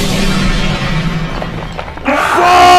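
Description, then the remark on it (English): A loud, sustained video game blast from a charged-up gemstone Hydron cannon, dense crashing and rumbling like boulders shattering and falling, with low booming underneath; near the end a bright tonal ringing rises over the debris noise. “Oh shit, he's charging it up. It's gonna be a big blast.”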